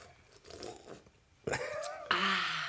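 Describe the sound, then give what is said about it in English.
Someone opens a frosty can of Coca-Cola and drinks it: a quiet rustle, a sharp crack of the tab, then a loud, steady fizzing hiss with gulping, no talking. “You know Frank Welker can make that noise without a can of Coke.”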